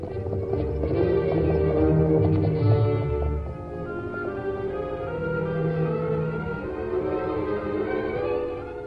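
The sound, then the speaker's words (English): Horse hooves clip-clop at a steady, even trot as the masked man and Tonto ride their horses Silver and Scout up a back trail to the hills, moderately loud and continuous, mixed with a full orchestral music backdrop and no talking. “The masked man and the Indian rode up a back trail to the hills.”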